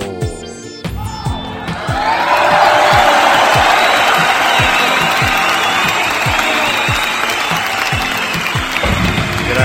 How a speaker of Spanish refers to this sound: Pues muchísimas felicidades a ellos, y público conocedor, yo creo que 100 programas merecen un fuerte aplauso.